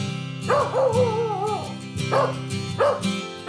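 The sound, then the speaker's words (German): A young shepherd mix puppy, a street dog from Romania, barks and yips in three bursts, the first drawn out into a whiny, wavering cry, over a steady low hum. “Kaya, leuchtend braune Augen, ausdrucksstarkes Gesicht, noch tapsige Welpenschritte, ein Schäferhund-Mix aus Rumänien.”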